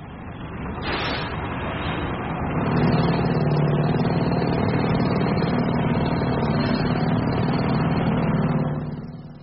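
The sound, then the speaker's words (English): A sound recording of well-known roadworks with heavy machinery and drills: a broad, continuous mechanical roar, joined after a few seconds by a steady low droning hum like a drill motor, holding loud until it tapers off at the end. “The drills gave it away.”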